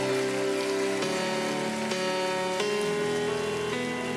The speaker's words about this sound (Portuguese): Você pode aplaudir ao Senhor? Vamos lá, gente, mais forte esse aplauso. Não é para mim, é para Ele.